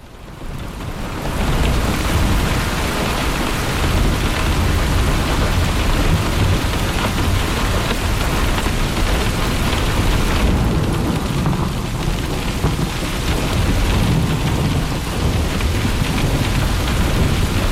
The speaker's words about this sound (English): So listen to some more rain.